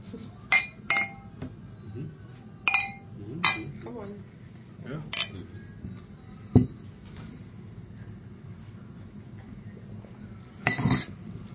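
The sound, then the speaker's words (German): Beer glasses clink together in a toast at a restaurant in Vienna, Austria, several bright ringing taps spread irregularly over about ten seconds, with a final cluster of clinks near the end, over a low murmur of background chatter. “Prost, die Dame, Prost, die Herren. Prost.”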